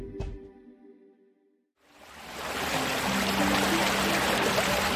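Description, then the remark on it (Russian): The small Peipia river, just over 2 km long and linking Lake Kopanskoye with the Gulf of Finland, flows steadily past mixed forest with a continuous rushing, burbling wash after a brief ringing tone and a moment of silence. No voices are heard. “Сейчас вы вышли на берег небольшой, но очень живописной реки Пейпия, соединяющей озеро Копанское с Финским заливом.”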